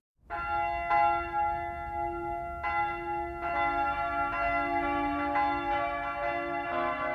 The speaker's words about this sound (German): Es ist ein Samstagmorgen in der Würzburger Innenstadt. Der mächtige Dom mit seinen zwei markanten Türmen läutet.